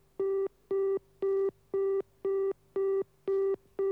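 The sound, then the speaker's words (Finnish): A telephone busy signal, left sounding after the phone's red receiver button is pressed to end a call, repeats eight times in steady on-off beeps, each a buzzy mid-pitched tone with bright harmonics, evenly spaced about half a second apart with no voices. “Tämä oli varattu piippaus, jota toivoi nimetön soittaja.”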